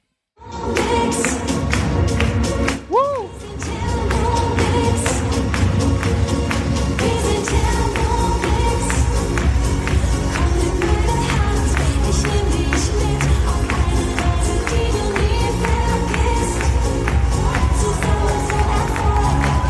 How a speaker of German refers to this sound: Also es wird viel natürlich auf 1 und 3 geklatscht und dann aber auch großer Jubel so Richtung Ende. Ja, die Leute haben richtig Bock auf Thermomix.